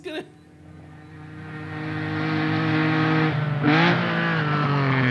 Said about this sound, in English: Now, he's trying to break the speed record. It's worth pointing out he already owns the speed record for the world's fastest golf cart.